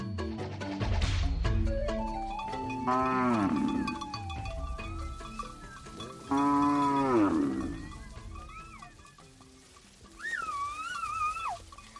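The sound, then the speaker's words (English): Cattle low loudly in several long, drawn-out calls while Maasai men's thin whistles rise and fall over them, calling the cattle out to graze, ending with a clear, wavering whistle near the end. “The sounds of Maasai men whistling to their cattle to call them out to graze.”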